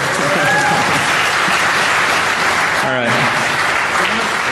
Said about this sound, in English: Yeah, I'm sorry. It's DEF CON tradition, first time speakers, they have to do a shot. How about a round of applause for these guys?